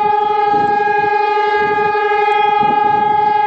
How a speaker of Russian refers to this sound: Ровно в 17:00 по местному времени в городе завыли сирены.